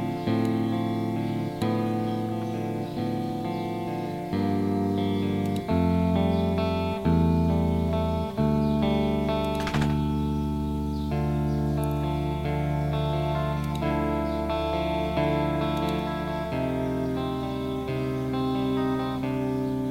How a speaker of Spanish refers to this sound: O a una sala de conciertos. Entonces, por lo general, pues suele ser un reverb, pues, de nuevo, bastante grande, ¿correcto? Okay. Y pues bueno, pueden escoger por ahí el tamaño. Entonces, vamos a escucharlo.